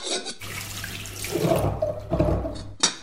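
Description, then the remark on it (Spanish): Water runs steadily from a tap for a few seconds, to make a vegetable soup, a continuous splashing rush with a low hum beneath it, ending abruptly as the flow is shut off. “No, comadre, primero necesitamos agua. La sopa es agua.”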